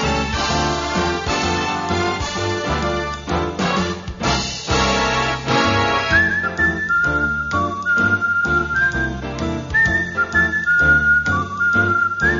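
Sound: whistled melody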